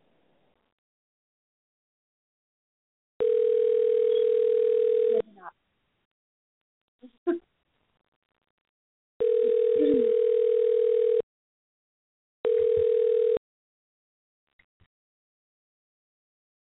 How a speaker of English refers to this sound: I sent her a message and let her know that I was calling. So hopefully she'll pick up the phone.